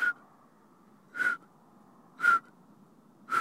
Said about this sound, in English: We had just barely gotten out of the car when we heard the solitaire sing its one-note song. Its call note is sort of a...